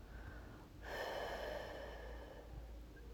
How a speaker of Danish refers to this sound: Og i din næste udånding, så prøv at lige så stille at lade bare din luft sive ud, som er det ud igennem et lille sugerør.